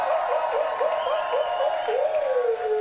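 A steady wash of audience applause in a club for the club's owner, loud and continuous, with sustained wavering whoops or cheers riding over the clapping throughout.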